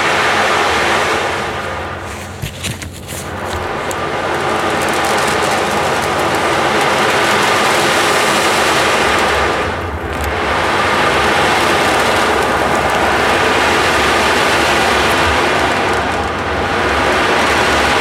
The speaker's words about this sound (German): Da hörst du jetzt echtes Wasserrauschen mit der Ocean Drum. Die Ocean Drum beginnt.